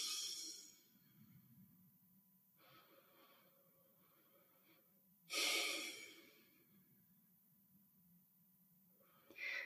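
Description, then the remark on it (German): A person sitting upright takes three slow, deep breaths in and out: airy inhales and exhales in an unhurried rhythm, mostly soft, with one stronger, rushing exhale partway through. No one speaks. “Ja, und dann atme einfach dreimal tief ein und aus.”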